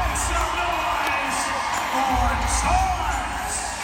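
A steady roar of crowd cheering to welcome a professional showboat basketball player onto the court, with scattered whoops and rising yells breaking through the dense, continuous noise; no clear speech stands out.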